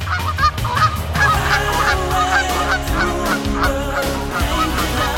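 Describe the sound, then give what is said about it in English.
Canada geese honk loudly and continuously, many overlapping calls from a flock, with no talking and a steady busy din throughout. “Looking at a Canada goose, you might not think their bodies are designed for fancy flying.”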